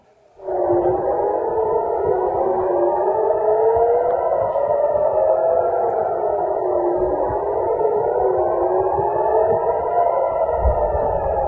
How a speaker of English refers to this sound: These were the sirens that sounded on Saturday in Jerusalem. That's right. Literally, at the Wailing Wall and on the Holy Mount was the sirens of the missiles that were coming in.